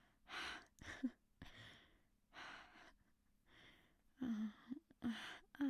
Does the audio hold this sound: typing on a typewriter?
no